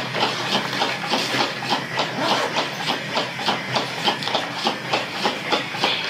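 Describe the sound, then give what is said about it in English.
A ceiling fan running in a messy bedroom clicks in a steady, quick rhythm, about three sharp ticks per second, over a constant whooshing hum. Nobody speaks. “That clicking sound is a ceiling fan that's running obnoxiously through all this.”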